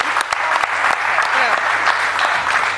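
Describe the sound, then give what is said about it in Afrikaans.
A crowd applauds for long-distance sea swimmers who swim without wetsuits, a steady, dense wash of many hands clapping at an even, fairly loud level with scattered sharper claps standing out throughout. “Kom ons geef hulle aan een klap.”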